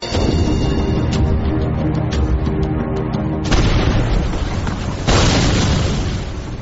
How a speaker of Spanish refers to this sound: La historia de la fragata Mercedes comenzó hace 200 años con su hundimiento, ya han escuchado los cañonazos, el micrófono de la cadena COPE estaba allí, frente a las costas de Portugal.